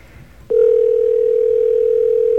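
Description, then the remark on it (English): An outgoing telephone call goes unanswered: after a soft click, a steady, loud mid-pitched ringback tone starts and holds unbroken for about two seconds, with no one talking, while the callers wait for someone or an answering machine to pick up. “Okay, we'll let this ring for a little while.”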